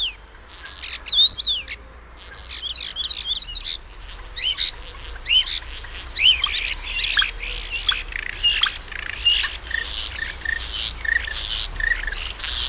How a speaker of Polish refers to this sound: Mówimy dzisiaj o szpakach, które są zwiastunami wiosny. Posłuchajmy jeszcze raz te szpaki nasze polskie i telefony.